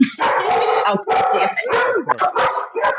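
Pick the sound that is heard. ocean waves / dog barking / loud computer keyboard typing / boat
dog barking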